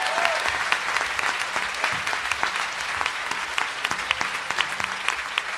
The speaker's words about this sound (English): I want to finish by thanking very, very sincerely our three panellists. So if you could give a round of applause